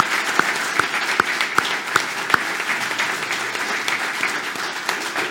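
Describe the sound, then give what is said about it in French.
An audience applauds Brigitte Barège, mayor of Montauban, steadily, a dense wash of many hands clapping, with a few sharp, louder claps standing out early on before the applause carries on evenly. “Étape applaudissement pour la maire de Montauban, s'il vous plaît.”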